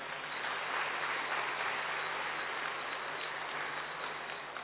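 Sustained applause from a seated audience clapping for themselves, a dense steady wash of many hands clapping at once, holding an even loudness for several seconds with no voices on top.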